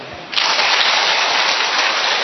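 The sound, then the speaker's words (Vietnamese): An audience breaks into loud, dense applause for a Buddhist family; it starts abruptly after a brief moment and keeps up steadily, a continuous crackling wash of many hands clapping with no voices over it. “Vậy thì chúng ta lại một tràng pháo tay thật lớn nữa để gửi tặng cho những người ngoại đạo, người đạo Phật.”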